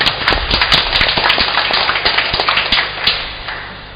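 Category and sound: crowd, applause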